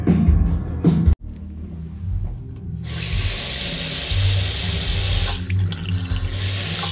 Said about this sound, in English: Toilets at the baths are cool. The sink is on the back of the cistern, so when you wash your hands, it flushes the toilet, rather than you actually flushing the toilet. That's neat.